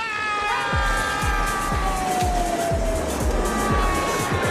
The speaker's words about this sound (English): At night, Dex and Ed sleep while the car continues to do donuts.